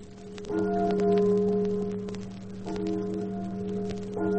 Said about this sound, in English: It is a gray day, and like the echo of the day itself, a bell tolls mournfully. Its sound carries over the town, falls desolately upon the ears of its listeners.